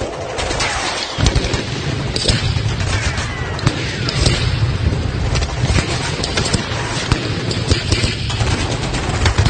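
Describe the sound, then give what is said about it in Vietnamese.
Sustained, dense machine-gun fire, shot as a warning to clear the way, sweeping over banana leaves: rapid sharp cracks layered over a heavy low rumble, loud and continuous, with no voices. “Một loạt súng máy bắn dọa dẫm để dọn đường bắt đầu xuất ào ào trên mấy tàu lá chuối”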